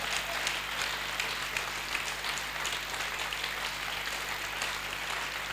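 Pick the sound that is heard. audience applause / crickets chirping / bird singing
audience applause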